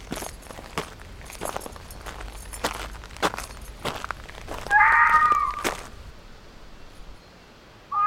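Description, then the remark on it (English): An elk calls once: a high, wavering whistle about a second long, rising out of steady crunching steps and sharp clicks. Afterward things go quiet, with a faint tone starting at the end. “Now that elk wasn't coming. It was calling.”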